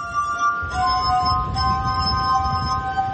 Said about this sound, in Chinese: 图纳用玻璃琴演奏各种各样的乐曲